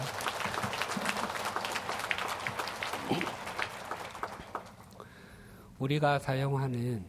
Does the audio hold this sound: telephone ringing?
no